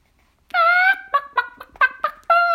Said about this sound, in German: Ich bin ein klasse Huhn, gackert sie den lieben langen Tag im Hof herum.